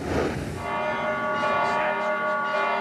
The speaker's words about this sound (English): Christmas is canceled in Bethlehem. Church bells ring, but no one's listening. The season's magic missing from Manger Square, along with the Christmas tree and dangling decorations.